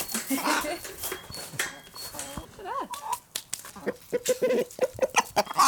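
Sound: hens clucking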